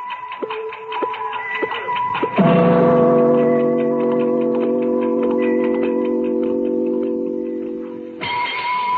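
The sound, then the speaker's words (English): A big clock ticks in a steady, even rhythm, clear. Partway through, a deep sustained chime rings out over the ticking, then fades as the ticks return alone. “I could feel the big clock's hands spinning, hurling me faster and faster.”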